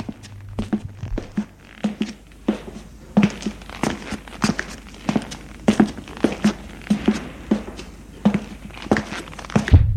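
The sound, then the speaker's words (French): Footsteps climbing an old stone staircase to a third-floor apartment: a long, steady series of sharp, hard steps at an even pace, each one crisp and clear, with no voices. “Ils prennent un vieil escalier de pierre.”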